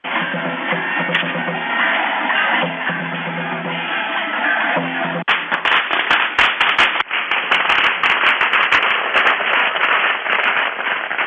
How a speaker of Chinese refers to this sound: 当地老百姓敲锣打鼓，吹起了唢呐，跳起了狮子舞，并且挥舞着长龙，放起了鞭炮，热烈欢迎宋楚瑜一家还乡。